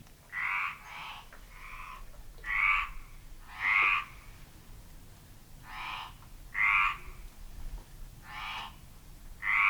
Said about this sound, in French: et en ce moment, ben on compte encore 20 rainettes. Nous, on trouve que ce n'est pas beaucoup, et pourtant, quand ça se met à chanter, ça fait un bruit épouvantable, parce qu'on ne peut pas dire que le chant soit très joli.